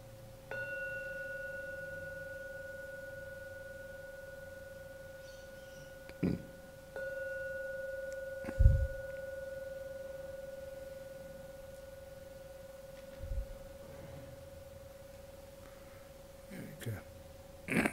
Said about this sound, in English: And now, ring the gong 3 times. Please wait for the 3rd sound from the gong before you open your eyes and come out from the meditation.